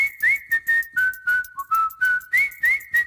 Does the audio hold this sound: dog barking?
no